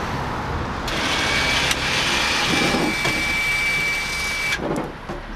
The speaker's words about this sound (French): Voilà, ça c'est le système VRS, donc ce qui nous permet d'embarquer le véhicule tout de suite quand la panne n'est pas réparable sur place. Ce qui arrive dans une dizaine de pourcents des cas. Donc on a du matériel pour tous les véhicules.